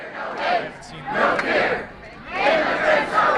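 A large crowd of more than 1,000 protesters chants in unison at Bradley International Airport in Connecticut on Sunday, protesting Donald Trump's immigration ban, loud rising-and-falling waves of many voices repeating a rhythmic call, with a brief lull between bursts.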